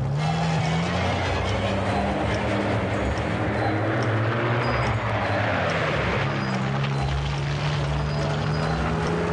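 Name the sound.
truck driving off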